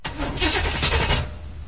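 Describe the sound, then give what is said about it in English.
A car engine cranks with a quick run of rhythmic starter bursts, then catches and settles into a low, steady rumble. Loud, with no voices. “Fire up, man!”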